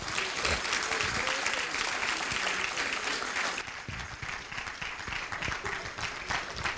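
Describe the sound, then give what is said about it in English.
A church audience in Louisiana claps for Jesus in a sustained, dense burst of applause, loud at first and then easing slightly, with many hands clapping at once. “Come on, clap your hand for Jesus.”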